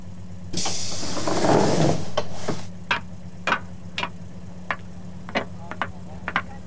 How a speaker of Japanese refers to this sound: 次は101テレビ局前。101テレビ局前。ドアが開きます。